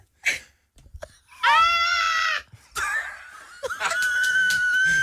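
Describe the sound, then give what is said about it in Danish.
A person lets out thin, strained, breathless screams with all the air blown out of the lungs: a short squeak, then two long wavering cries, almost like a goat's bleat, with brief gasps between. “Var det dit bedste uluftede skrig?”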